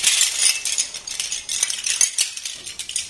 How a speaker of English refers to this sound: I play a lot with shells, seashells. It gives a lot of ambience.